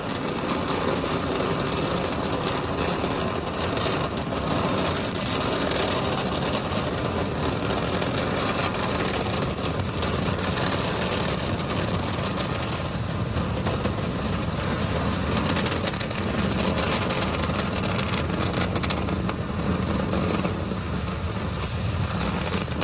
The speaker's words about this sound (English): And now we're entering the throttle bucket. Right, we're powering down the Merlin engines to relieve the acceleration as we get ready for the period of maximum dynamic pressure.